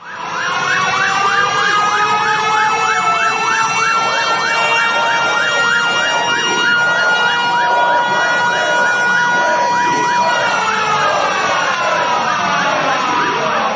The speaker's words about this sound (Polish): O 17, czyli godzinie W, w której wybuchło powstanie, zabrzmiały syreny alarmowe, a mieszkańcy Warszawy uczcili powstańców minutą ciszy.